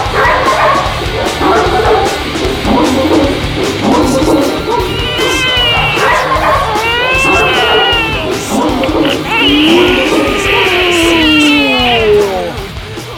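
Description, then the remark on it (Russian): Several dogs on a neighbouring floor, woken up, bark and yip continuously, imitating the music, mixed with whining, howl-like cries that rise and fall. The chorus is loud, running the whole time with no talking. “Собаки на соседнем этаже тоже проснулись. Тоже проснулись, тоже стали подражать с не меньшим успехом.”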